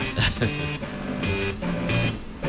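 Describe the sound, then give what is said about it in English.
A tune played by floppy disk drives and one hard drive: buzzy, mechanical tones stepping through a quick melody over a low, grinding bass line, steady and fairly loud, with no voices. “That's floppy disks. And one hard drive.”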